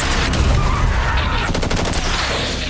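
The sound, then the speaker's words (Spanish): A loud, sustained barrage of gunfire following a shouted order to fire, in a film about the September 1986 attempt on Augusto Pinochet in Chile. It is dense and continuous, with rapid-fire bursts crackling through the middle and end of the stretch. No voices are heard. “¡Fuego!”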